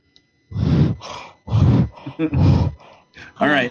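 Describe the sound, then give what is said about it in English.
A voice mimics gagging, producing a series of loud, throaty retching grunts and groans in bursts, with a strained, choking quality and brief pauses between them. “Well, you have to make gag sounds.”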